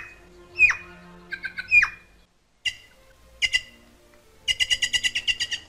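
A magpie calls with harsh, scratchy squawks, a couple of down-slurred cries, then a rapid rattling chatter of about nine clipped notes at the end, loud with brief pauses between.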